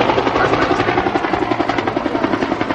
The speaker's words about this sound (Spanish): Los helicópteros nos sobrevuelan.